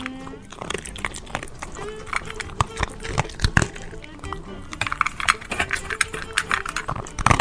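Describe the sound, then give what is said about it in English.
A happy dog eating food: a steady run of irregular crunching and clicking chomps, dense and fairly loud throughout, with brief quieter gaps between bursts of chewing. “Nothing like a happy dog eating away there.”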